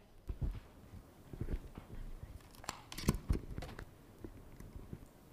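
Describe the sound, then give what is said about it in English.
Handling noise from a microphone being taken off: a string of sharp clicks and soft low thumps, irregular and fairly quiet, with no talking. “It'll work as I take it off, then you'll hear it clicking.”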